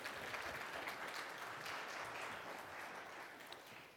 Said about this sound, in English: Thank you. I'm going to keep commenting on this, but thank you very much. Another round of applause for our folks, and thank you back there. Thank you.